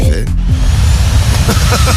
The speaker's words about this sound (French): Oh là là là. Si vous, j'étais pas... en train de passer l'aspirateur.